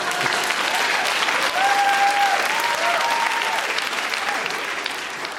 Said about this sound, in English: And then it says, pause for applause. Yeah.